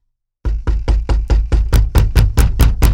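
A brown squirrel hurriedly knocks on the door of a house: about a dozen quick raps in a steady rhythm after a brief silence, loud with a solid thump and no voices.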